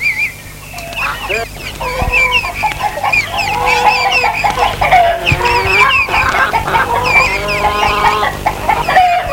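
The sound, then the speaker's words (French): Several chickens cluck continuously and overlap one another, fairly loud, as they peck in front of the house of an isolated farm, with a steady low hum underneath and no voices. “Malgré les poules qui picorent devant la maison, cette ferme semble isolée.”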